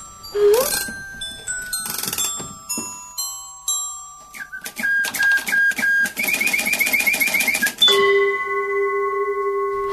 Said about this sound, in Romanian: Uite, Buratino, a găsit încă o cheită. Asta trebuie să fie de la ceasul acela din turnuleț. Da. Am o idee. Ce-ar fi să întoarcem ceasul? Da, da, hai. Așa.